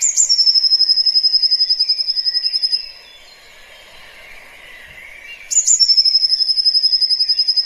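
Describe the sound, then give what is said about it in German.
A songbird sings its spring song with variations: a high, rapid, insect-like reeling trill in two long bursts separated by a few seconds of quieter background, steady, with no talking. “Für mich ist das so Frühling, weil das ist auch ein Vogel, der im Sommer nicht mehr singt.”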